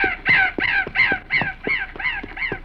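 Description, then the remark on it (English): A talkative raven named Mad Anthony Wayne caws in a quick, steady series of about eight harsh, raspy calls, loud, with no talking alongside. “He traveled with two Indians, a pack of mules, a surly black bear, and a talkative raven named Mad Anthony Wayne.”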